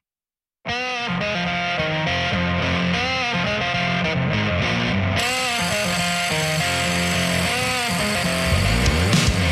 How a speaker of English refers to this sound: … on the guitar. What an intro. That sounds very big time, quite frankly.